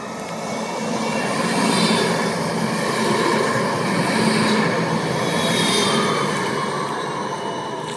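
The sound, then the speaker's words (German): A tram rolls steadily along its rails, a continuous rumble with metallic wheel hum and faint squealing that swells and eases over several seconds, with no voices. “In 10 Tagen stimmt die Stadt Bern nämlich erneut über ein Tram nach Ostermundigen ab.”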